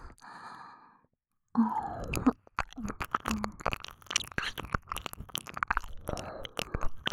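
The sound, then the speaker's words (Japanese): An ASMR recording: a soft breathy exhale and a short pause, then a dense run of wet ear-licking mouth sounds: sharp clicks, smacks and slurps in an irregular rhythm, fairly quiet, with no speech. “ドスケベ吐息と耳舐めてお耳おかしちゃうよ。”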